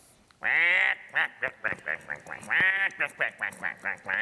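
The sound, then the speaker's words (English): A person imitates a duck during a game of Simon Says with a rapid series of loud, nasal quacks, starting with one long drawn-out call followed by a string of shorter, choppy ones. “Simon says, quack like a duck.”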